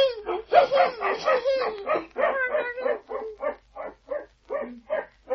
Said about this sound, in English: I wonder if they'll be allowed to keep the dog. I hope so. He sounds a jolly little fellow.